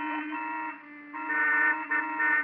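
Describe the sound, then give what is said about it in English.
Several car horns blare together in suddenly heavy, single-file traffic, in long, overlapping honks, their steady buzzy tones shifting as new horns join in, loud and continuous with no voices. “What's everybody honking for?”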